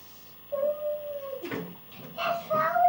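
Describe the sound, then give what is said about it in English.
A voice gives a drawn-out, steady howl in imitation of a wolf, held for about a second, followed by a short breathy burst and another wavering howl-like cry, moderately loud. “The wolf. The wolf? Uh-oh. Who's saying that? The wolf.”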